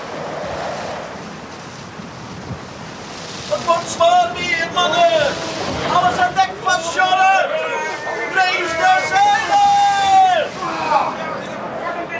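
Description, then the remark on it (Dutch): Storm wind roars over the sea as a steady rushing wash, howling through the ropes of the ship Halve Maan. Midway, wavering high howls rise and fall in long, moaning tones over the churning noise until the end. “De stormwind gierde ook over zee tot op de plaats waar de Halve Maan voer.”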